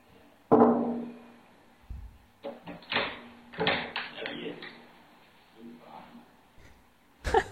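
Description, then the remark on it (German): An annoyed person knocks energetically on a door in two short, quick bursts of sharp, loud raps, with faint muffled noise between them. “Da hat man natürlich deutlich gehört, der war total genervt, hat auch sehr energisch geklopft, zweimal, recht kurz.”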